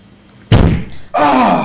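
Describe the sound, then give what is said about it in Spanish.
A heavy, booming thud as a body crashes into the door of an old refrigerator while trying to force it open, its low rumble fading briefly before a strained, pained vocal groan follows. “¿Daño? Mucho. ¿Y has logrado abrir la puerta?”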